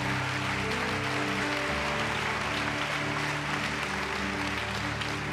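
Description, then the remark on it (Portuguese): A church audience claps steadily and continuously during a sermon on faith, a dense wash of applause over sustained keyboard chords that shift about a third of the way through. No one speaks. “Se você aplaudir, recebe o batismo de fé.”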